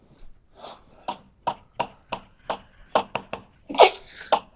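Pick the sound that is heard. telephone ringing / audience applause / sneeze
sneeze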